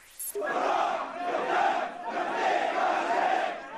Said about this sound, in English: Thousands of people are marching in the streets during funerals for victims of the government crackdown. The crowds reportedly chanting, "We will never surrender."